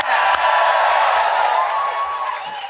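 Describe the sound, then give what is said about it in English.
A live audience at the Listening Post stage of the Latitude Festival cheers and whoops loudly and steadily through their masks, a dense wash of many voices with a few claps, slightly muffled, easing off a little toward the end. “There we are, that is the noise there of people all cheering through their masks.”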